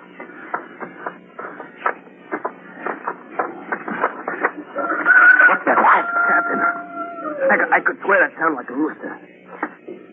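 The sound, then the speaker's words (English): A rooster crows on Mars, once in the middle, a drawn-out call that slides downward over a couple of seconds, heard amid people talking before and after. “I could swear that sounded like a rooster.”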